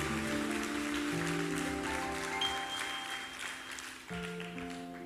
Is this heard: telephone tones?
no